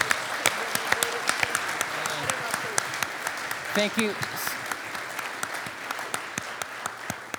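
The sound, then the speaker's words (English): A round of applause from a crowd, steady dense clapping running throughout at a moderate level, with a voice briefly speaking partway through. “Can we give a round of applause to...”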